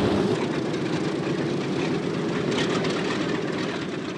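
airplane engines droning

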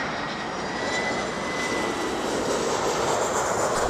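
airplane engine

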